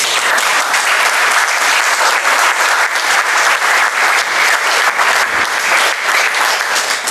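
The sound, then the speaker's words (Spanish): Sustained audience applause for three speakers' talks, dense and steady clapping from many hands at a fairly loud, even level throughout, with no one speaking over it. “Bueno, podem aplaudir, les tres intervencions.”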